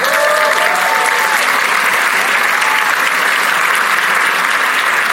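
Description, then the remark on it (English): A crowd at the City Club applauds steadily to welcome Cook County Board President Tony Preckwinkle, a loud, dense wash of clapping that holds an even level for the whole stretch, with faint whistles or cheers rising briefly near the start. “So please join me in welcoming Madam President of the Cook County Board, Tony Preckwinkle.”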